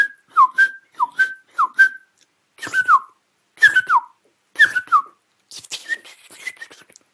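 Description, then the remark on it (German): A person whistles an imitation of song thrush notes: sharp, clear phrases repeated in threes, with sliding downward notes, fairly loud, with no talking. “Also sie hat sehr scharfe Pfeiftöne.”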